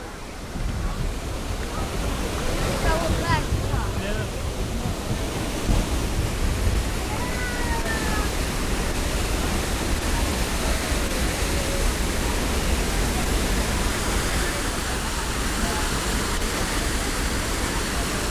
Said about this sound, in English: We have a waterfall off to the right.